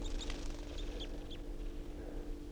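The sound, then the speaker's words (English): Three wild birds at the top of a pine tree give a scattering of short, high chirps and thin descending whistles, fairly faint, over a steady low hum and background rumble, with no talking. “So there are three birds now, top of this pine.”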